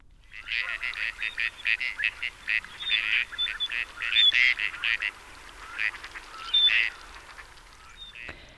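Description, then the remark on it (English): A flock of gadwall ducks calls steadily in St. Louis during fall migration, with overlapping nasal quacks and chattering notes coming in rapid bursts, moderately loud, with no talking. “We also have the sound of another waterfowl that is coming through St. Louis during this fall migration. That's the gadwall.”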